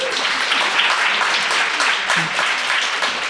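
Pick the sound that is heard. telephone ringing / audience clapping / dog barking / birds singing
audience clapping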